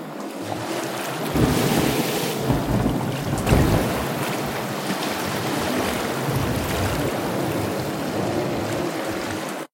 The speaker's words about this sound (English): The wind started picking up about midday, and by nightfall the storm howled.